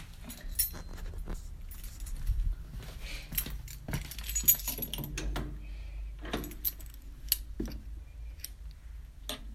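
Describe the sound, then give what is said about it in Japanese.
Metal keys jingle and clink repeatedly, a busy scatter of bright rattles over several seconds as the bunch is picked up and lifted before heading out from home for a jog, with soft rustling underneath. “では鍵を持って、”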